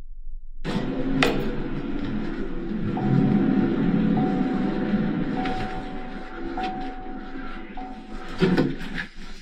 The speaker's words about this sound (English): Now, you hear a motor vehicle go by. We can guess which vehicle that is, but we hear it pass.